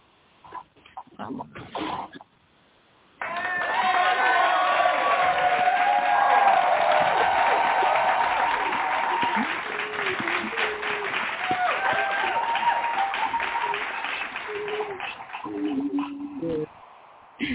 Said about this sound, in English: and we're going to welcome her with a hand clap. Praise. Praise.